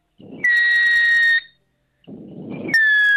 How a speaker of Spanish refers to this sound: Bueno, pues esto, sí. lo que yo he hecho ha sido que con un globo lo he inflado y luego aprieto la boca del globo para cuando salga el aire se estreche. Y al estrecharse la salida de aire provoca ese silbidito.